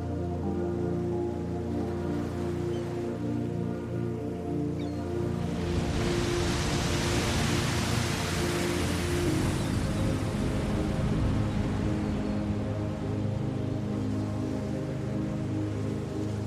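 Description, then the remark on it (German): Steady rushing ocean waves at a sandy beach at sunset, a broad hiss that swells louder midway and stays continuous, layered over a low droning hum; no voices. “Für einen Moment schließt du erneut die Augen und lauscht dem Rauschen der Wellen.”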